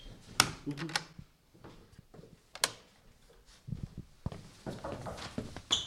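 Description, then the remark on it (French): A door is opened and then shut, with a sharp latch click, a few rattling knocks and thuds of the handle and frame, and quieter shuffling between the louder bangs. “Ouvre la porte et ferme-la. On va prendre le bruit.”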